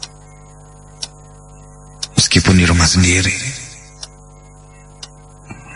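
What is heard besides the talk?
wall clock ticking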